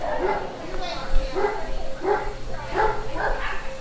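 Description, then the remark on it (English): Dogs bark repeatedly at an annual kennel club dog show at the Fresno Fairgrounds, with 1,500 dogs entered, a series of sharp, fairly loud woofs at a steady rhythm over a constant low hum and faint background chatter. “1,500 dogs from around the world entered the Fresno Fairgrounds for the annual Sun Made Kennel Club dog show.”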